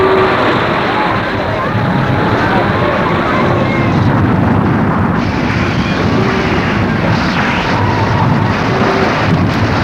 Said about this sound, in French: Un vent glacial court le monde.